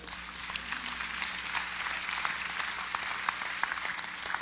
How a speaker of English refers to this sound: Clap.